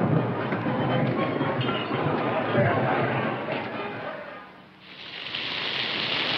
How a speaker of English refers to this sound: The three brothers ride through torrential rain.